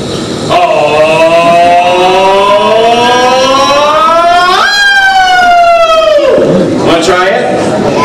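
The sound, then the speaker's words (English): A single voice does a vocal siren exercise in a gym, sliding its pitch steadily upward for several seconds, peaking, then sweeping back down before a brief rising whoop, loud throughout. “Alright, so I'm going to do a vocal siren, then we're going to try one together.”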